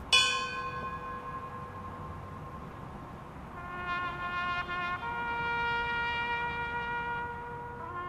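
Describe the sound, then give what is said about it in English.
A firehouse bell is struck a few times during a 9/11 memorial ceremony in Winston-Salem, each clang ringing out with long, shimmering overtones that hang and slowly fade. There is no talking, just the resonant tolling against faint background noise. “During the ceremony in Winston-Salem, the victims of the 9/11 attacks were also remembered with a moment of silence and the ringing of the firehouse bell.”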